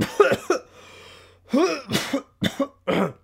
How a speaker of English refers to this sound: By the way, I do apologize, guys, if I keep on coughing. I just went through a cold, and I'm pretty much at the tail end of the sickness, so I'm trying to get back on the saddle, so I do apologize.